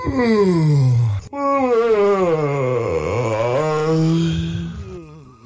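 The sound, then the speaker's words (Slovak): Several people on a morning radio show yawn loudly together, long drawn-out voiced moans sliding down in pitch, with a short break before a second overlapping group yawn that fades out at the end. “Ale stále, teda ak by ste chceli, môžeme si spoločne zívnuť.”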